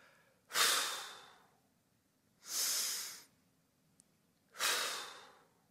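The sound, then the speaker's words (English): Three slow, deep breaths, each a soft airy rush lasting about a second, separated by short pauses, as spiritual breathing practice at a Christian church. Fairly clear, with no talking. “Exhale, release. Inhale, take in.”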